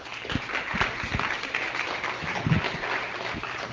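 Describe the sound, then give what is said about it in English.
A crowd breaks into steady applause, dense overlapping claps sustained throughout at moderate volume, with no voices standing out. “So a round of applause for all of them.”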